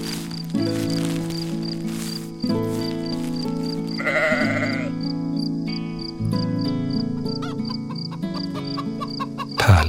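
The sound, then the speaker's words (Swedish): A hen clucks in short, warbling bursts outside, with scraping and pecking, loudest around the middle, over a steady musical backing that plays throughout. No one speaks. “Ett hasande och hackande från någon utanför. Det är bara hönan som vill komma in, säger Bubblan.”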